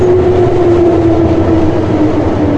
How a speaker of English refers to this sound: And here comes the train.